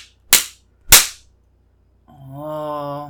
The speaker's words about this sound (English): Am I not spanking you hard enough?